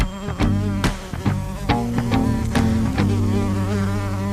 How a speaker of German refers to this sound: hypnotisiert vom bedrohlichen Summen dieser schwarz-gelben Gefahr aus dem Tierreich der Wespen